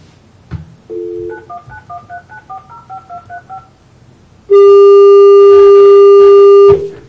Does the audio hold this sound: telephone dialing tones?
yes